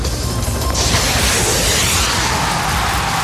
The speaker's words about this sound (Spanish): Por supuesto, voy con el primer disparo. No voy a tirar a nadie, pero voy con el primer disparo para ver qué tal se escucha el sonido.